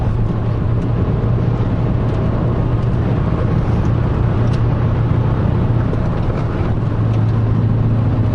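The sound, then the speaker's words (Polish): A car engine roars steadily at high revs with a constant loud drone and road rumble, a car driving fast on a very long race track, without any talking. “To jest bardzo długi tor, a jak przegrzejemy hamulce, to będzie koniec jazdy.”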